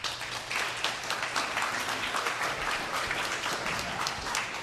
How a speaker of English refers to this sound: You have two options here, care, don't care. Clap if you care about Hillary's view of what happened.